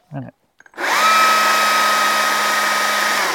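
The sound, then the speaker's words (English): A battery-powered chainsaw, with no fuel cap or fuel container and lubricated with bar oil, whirs up after a couple of clicks and holds a steady, high electric whine, quieter than a regular chainsaw, preceded by a brief voice. “So I also, another thing I like about this is it's not as loud as the regular chainsaw.”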